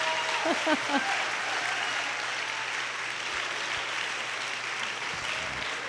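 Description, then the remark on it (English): An audience applauds steadily, a dense, even wash of many hands clapping that holds at a constant loudness for about six seconds, with a brief murmur of voices underneath near the start. “That deserves some applause, don't you think?”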